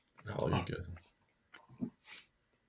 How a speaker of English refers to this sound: I'm going to chew the Sour Patch Kid 1 sec.